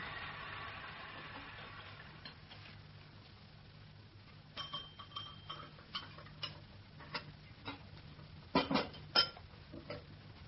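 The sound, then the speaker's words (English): A low steady hiss from a kettle fades out, followed by a series of light china clinks and taps as cups and spoons are handled while tea is made, irregular and quiet, with two sharper clatters near the end. “Excuse me, the kettle.”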